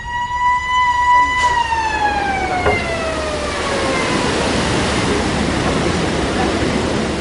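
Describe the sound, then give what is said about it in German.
The siren of a 19th-century hydraulic boat lift on an old canal sounds a loud, steady wail that slowly slides down in pitch, while a broad rush of flowing water swells up beneath it and carries on after the siren fades, as a boat floating in the lift's tank is raised nearly 20 metres. “Die Sirene jault, das Wasser rauscht, schon befinde ich mich in luftiger Höhe.”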